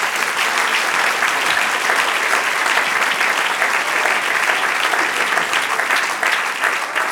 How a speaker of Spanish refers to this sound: Denle un aplauso ahora al Señor.